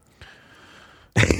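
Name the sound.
throat clearing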